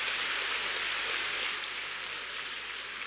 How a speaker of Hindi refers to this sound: आज इसका हीरक जयंती है, डायमंड जुबली सेलिब्रेशन है, डायमंड जुबली हॉल में हम मना रहे हैं, इसके लिए जोर से ताली बजाएं।